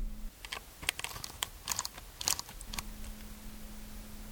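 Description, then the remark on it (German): A vintage Leica M3 rangefinder camera's shutter and mechanism clicking, a quick run of sharp, dry mechanical snaps for a couple of seconds, then only a faint steady hum remains. “Eine Leica M3 war das.”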